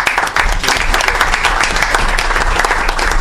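A crowd claps steadily and loudly for a few seconds for every worker of the municipal company, many hands blending into a dense, continuous wash of applause with no talking.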